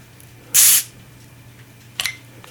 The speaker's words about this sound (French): Le petit bruit de... Fait que... Le bouchon qui tombe. Ouais, mais j'avais le ouvre-bouteille le plus court de l'univers.